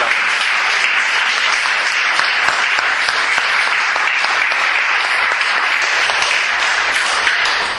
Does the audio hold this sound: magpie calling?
no